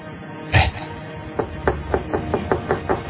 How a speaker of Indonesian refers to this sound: Tapi sepertinya bukan. Ini sih pintu kamar apartemenku yang diketuk. Aku pun beranjak dari tempat tidurku menuju pintu.